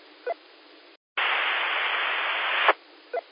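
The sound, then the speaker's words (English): A burst of harsh radio static from someone keying a radio mic, lasting about a second and a half, cut in after a brief dead silence and ending with a sharp click, over a low hiss with faint squelch blips. “I thought I heard somebody at least hold a mic down or something.”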